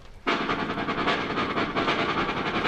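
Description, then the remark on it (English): An accordion imitates a train, starting abruptly with a loud, dense chord that pulses in a steady chugging rhythm, like rail cars clattering along. It is sustained, with no voices. “Listen, a train.”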